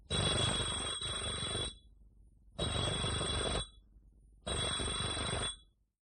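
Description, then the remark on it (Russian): An electric doorbell of a flat off a courtyard in Moscow is rung three times, loud: a longer first buzzing ring, then two shorter ones with brief pauses between them, and no talking. “Идет по улице, заходит во двор. Звонит Кашиным 3 раза.”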